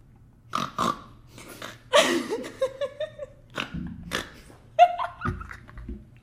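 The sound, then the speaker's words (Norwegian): A person imitates a horny pig with a series of snorting, squealing grunts in uneven bursts, fairly loud, with breathy pauses between them. “Jeg føler ikke at det var noe annet enn en gris.”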